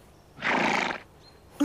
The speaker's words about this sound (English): No, it isn't. It's a horse.